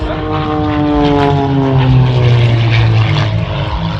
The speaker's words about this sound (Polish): I spójrzcie Państwo w prawą stronę. Trzy samoloty AT-3 z Fundacji Biało-Czerwone Skrzydła.